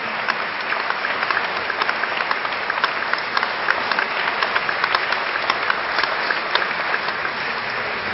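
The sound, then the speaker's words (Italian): A crowd claps steadily in sustained applause of gratitude for the Bishop of Taranto, one year after his nomination, dense and even throughout, with many hands producing a continuous patter and no voices standing out. “Vogliamo fare anzitutto gli auguri perché ieri ha fatto un anno da quando è stato nominato Vescovo di Taranto e gli facciamo ancora un applauso grande di gratitudine per questo.”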